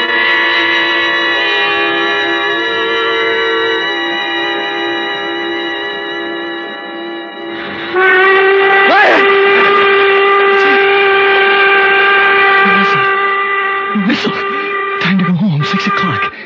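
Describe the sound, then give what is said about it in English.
A loud train whistle blows in one long, unbroken chord, its steady tones shifting to a brighter, louder pitch about halfway through before holding on with brief wavers near the end. “Slept right through. And the whistle woke me up.”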